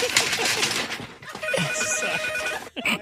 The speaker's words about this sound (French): Oh, et parlant de coup de fil, on entend le téléphone du studio qui sonne. Je sais pas si je vais être capable d'aller chercher parce que quand même, il est derrière là.